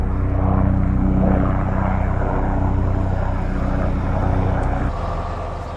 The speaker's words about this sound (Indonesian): Helikopter dan pesawat terbang menjatuhkan bahan pemadam api dan air di atas kobaran api.